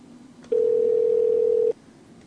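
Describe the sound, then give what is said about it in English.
A single steady electronic ring tone from a phone line calling 114, a flat mid-pitched hum lasting just over a second before cutting off, with no voice answering. “114's not going to pick up.”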